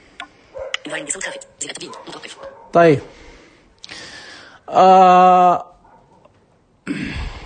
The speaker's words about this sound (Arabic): شايفين كأني في قرية عندي كلاب تعوي.